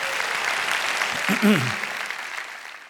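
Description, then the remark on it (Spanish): An audience at Iglesia La Roca y Alcance Mundial claps steadily for the Lord at the end of a sermon, a dense, continuous wash of applause, with a brief voice rising over it midway through. “Si Dios te habló, de un aplauso al Señor, que Él se lo merece.”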